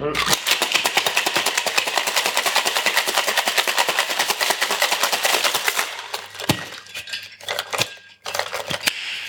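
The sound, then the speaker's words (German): A shaker rattles rapidly and continuously in a dense, bright, hissing rhythm for several seconds, then slows into a few scattered, uneven shakes before stopping. “So, jetzt gibt es Shake-Geräusche.”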